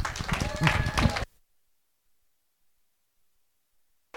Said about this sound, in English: Okay, let's give a bigger applause to Jesus. Amen. Hallelujah.